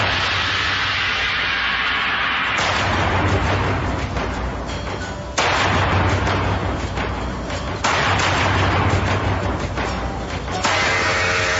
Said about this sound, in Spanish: Once y 40 de la mañana, los visitantes del Palacio de Justicia y los transeúntes de los alrededores del centro de Bogotá son sorprendidos por disparos que se escuchan dentro del edificio.